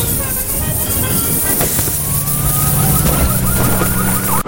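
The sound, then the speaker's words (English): An ambulance siren wails with rising and falling tones, rising out of a dense, steady roar of traffic and a cheering crowd on a roadway, fairly loud and continuous until it cuts off abruptly. “Hey, I guess if I'm gonna die and land somewhere, it might as well be right up next to the ambulance, right?”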